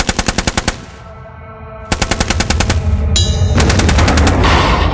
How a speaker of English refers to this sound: I don't want a snare drum, I want a rifle.